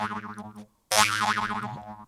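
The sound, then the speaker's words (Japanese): A metal mouth harp, called a 'biyon-biyon', played in the mouth, twangs in two bursts separated by a brief gap, its buzzing drone wobbling rhythmically in pitch with a bright, resonant edge; the second burst is louder and brighter. “じゃあなんか これ今俺がビヨンビヨンっていう楽器を買ったんですよ。”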